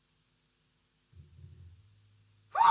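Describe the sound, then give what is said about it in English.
A sudden, loud sneeze bursts out right at the end, preceded by a quiet, low breathy rumble as it builds up. No speech is heard. “One more coming.”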